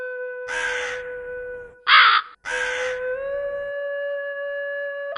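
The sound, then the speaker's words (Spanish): Two harsh, drawn-out caws from a crow on a tree branch at night, loud, with a shorter sharp call between them, over a steady faint hum that lingers after the calls. “Mientras percibes la sabia presencia del cuervo, moviéndose con gracia en la rama de un árbol, revelando destellos de su negro plumaje a la luz de la luna.”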